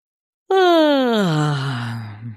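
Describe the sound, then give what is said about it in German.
A single deliberate, artificial vocal yawn begins abruptly after a brief silence, its pitch sliding slowly downward over about two seconds into a low, groaning exhale. Fairly loud, with no speech. “Es ist vielleicht zu Beginn etwas ungewöhnlich, aber ganz tolle Sache ist, wenn man versucht, künstlich zu gähnen. Also das Gähnen können wir auch künstlich herbeiführen.”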